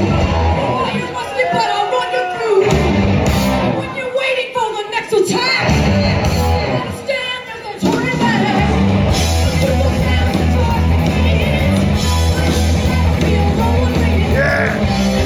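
A loud live heavy metal song with a female vocalist, dense distorted guitars and pounding drums filling the mix, and a roaring crowd yelling underneath throughout.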